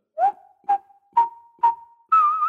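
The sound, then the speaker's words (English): Someone whistles a short melody, the Marseillaise, a few breathy, accented notes about half a second apart on a steady pitch, then rises to a higher held note. No one speaks. “He skipped down the step, and at the bottom lustily set to whistling the Marseillaise.”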